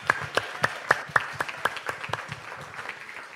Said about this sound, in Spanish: Dale el aplauso más fuerte a Jesús. Gloria a Dios.